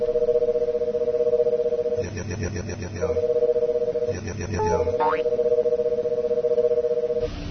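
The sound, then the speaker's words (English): An electronic scanning chirp from a video game, with the scanning speed slowed down, sweeps downward in pitch in short bursts over a steady two-tone drone, with a brief, thin tonal sweep near the end. “So it's making a chirping sound that's getting lower in pitch.”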